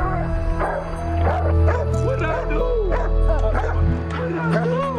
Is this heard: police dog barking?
yes